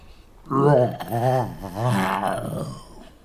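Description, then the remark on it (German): A voice imitates a bear yawning loudly, a drawn-out groaning growl that wavers up and down for about three seconds before trailing off. “Plötzlich gähnte der Bär schrecklich.”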